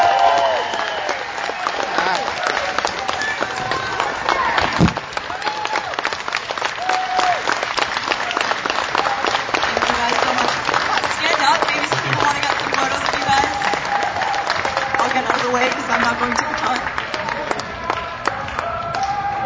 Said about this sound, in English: And now this may be the last time any of us see them before they go to Qatar, so can we please get your loudest round of applause for the Canadian men's national team?